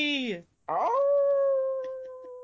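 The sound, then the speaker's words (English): A puppy lets out a short, falling whimper, pauses briefly, then rises into a long, steady howl that holds loud until the end, with no one talking. “But need to show the puppy. Show us the puppy!”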